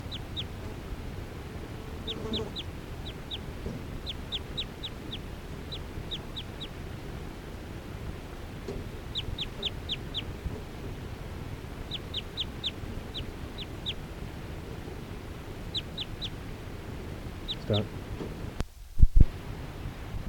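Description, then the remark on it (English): A decoy bird, bird 370, calls in repeated bursts of short, high, thin chirps, fairly faint over a steady low background hum, with a brief thump near the end. “the decoy, which is bird 370.”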